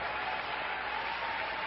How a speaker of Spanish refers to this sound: ¡Ey, si va a aplaudir, hágalo bien!